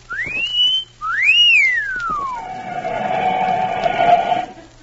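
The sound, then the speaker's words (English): A man whistles loudly to entertain himself, imitating how a girl might whistle at him: a quick upward-sliding note, a short pause, then a second note that swoops up and glides down into a long, steady held tone. “No, I was just whistling to entertain myself.”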